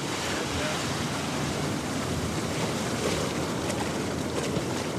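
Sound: ocean surf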